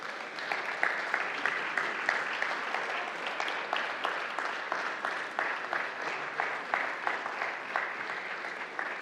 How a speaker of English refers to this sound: And so without a further delay, I'm going to ask those who are prepared to be baptized to come up and join me on the stage. And we're going to give them a round of applause to ease their transition up to the stage.